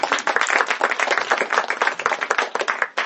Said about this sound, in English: So they're all in the house. Let's give them some applause.